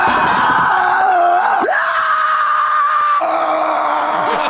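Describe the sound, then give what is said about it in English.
A loud, sustained shriek rings out with harsh, strained tones, wavering and breaking in pitch before carrying on unbroken for several seconds, piercing with no talk over it. “and then just lets out this horrible shriek.”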